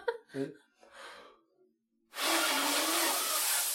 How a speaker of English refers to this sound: Well, can't you blow heavily without making that ridiculous noise? No, because that's how you blow.